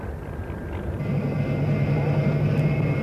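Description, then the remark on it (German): A deep engine rumble that swells about a second in, settling into a steady droning hum, like an aircraft engine starting up and running; an aircraft of the seventh squadron being started. “Garde anlassen! Siebte Staffel Flugzeug klar und blau. Eine Maschine!”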